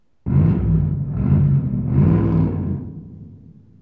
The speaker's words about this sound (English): Car.